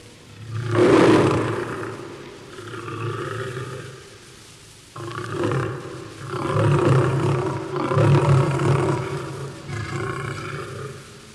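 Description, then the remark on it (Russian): Lions in a pit roar and snarl ferociously in a series of loud, rumbling bursts as they attack men thrown in, with a short lull midway before the roaring surges again. No one speaks. “Львы, что кротки с Даниилом были, врагов его в падении ловили и нещадно погубили.”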